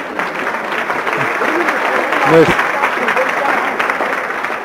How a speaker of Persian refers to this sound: مرسی. خودتون رو تشویق کنین.